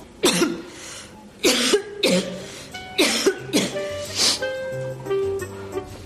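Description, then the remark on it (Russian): A string of exaggerated, forced-sounding coughs, about six sharp bursts in irregular succession, fairly loud, with a faint tonal hum underneath toward the end, as a woman fakes a cold during a phone call. “Да, ты еще покашляй для убедительности.”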